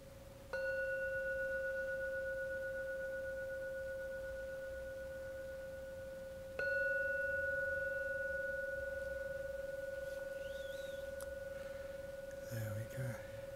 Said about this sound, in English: Three times. Please listen to every sound of the gong. And the last ringing of the gong, open your eyes.